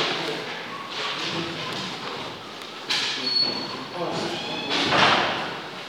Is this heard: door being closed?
yes